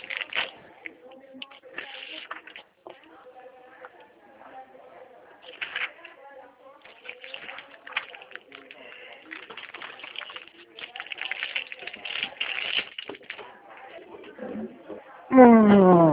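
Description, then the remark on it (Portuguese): Intermittent rustling and shuffling of paper with small handling clatter as someone fetches paper and a pen to take notes during a phone call, followed at the end by a brief, louder tonal burst. “Posso, deixa eu tomar nota aqui das. Isso, papel e caneta.”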